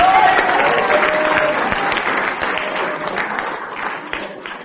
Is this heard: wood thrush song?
no